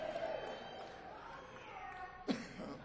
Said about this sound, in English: Sorry, people. It's a chronic cough, man. Caused by blunt force trauma.